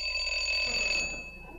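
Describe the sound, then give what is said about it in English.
A doorbell at the door of a hideout rings with a bright, buzzing metallic tone, held steadily for about a second before cutting off and fading, heard on its own. “I rang the bell.”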